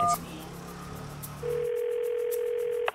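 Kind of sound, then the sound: signal or alarm, phone call ringing tone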